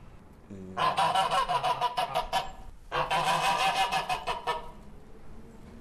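Geese honk loudly and close by in two long, raucous bursts of rapid, overlapping calls, separated by a brief pause, with no one speaking.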